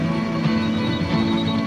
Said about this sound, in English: If this phone continues to ring this morning, I'm going to rip it off the wall.